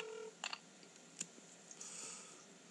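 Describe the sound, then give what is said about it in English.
A phone call rings unanswered: a brief, faint electronic tone at the start, followed by scattered soft clicks over a quiet line hiss. No one speaks. “Pick up your phone.”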